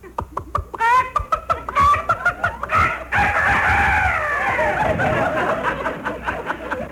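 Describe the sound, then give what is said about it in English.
A rooster crows loudly over the telephone in Mel Blanc's fix-it shop, starting with a quick series of clucks that build into a long, wavering cock-a-doodle-doo that trails off over several seconds. “I have a phone call for you from Dr. Rooster.”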